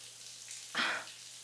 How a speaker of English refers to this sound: You realize I'm in the shower. You obviously heard it.